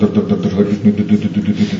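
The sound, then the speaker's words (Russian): A man's voice makes a low, steady rumbling drone with a quick, even pulsing, mimicking a car engine idling; fairly loud, lasting under two seconds with no words. “И я повторяю Харе Кришна мантру, и это просто машина на холостом ходу.”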